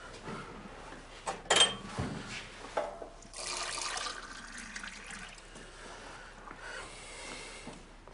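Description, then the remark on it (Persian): Water runs from a tap while hands are washed beneath it, a steady splashing and gurgling with a few louder sloshes and clinks near the start, fairly quiet. “الان دستمو شستم دیدی که؟”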